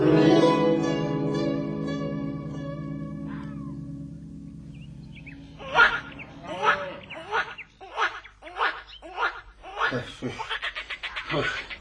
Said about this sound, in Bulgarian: О, какви чудни звуци. Като камбанен звън. А, чувам го. Не. Това са жаби, но скоро ще чуем и Славия.